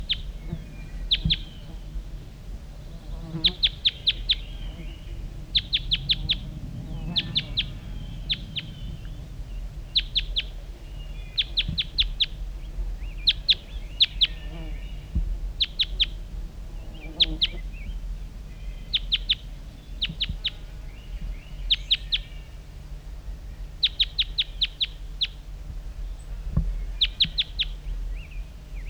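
wild male bird calling

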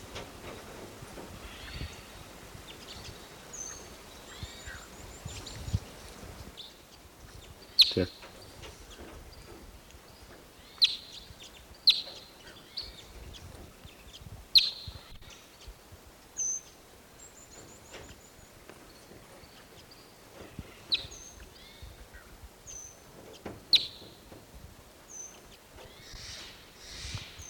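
wild birds calling

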